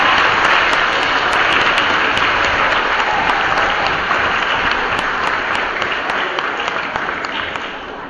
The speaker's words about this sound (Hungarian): álljanak oda a dobozok mögé, és nekik is egy nagy tapsot, hogy fölkészítettek ezt a gyermeket.